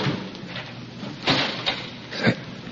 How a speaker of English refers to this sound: It was a door closing. I'm sure of it. Someone closed the outer door.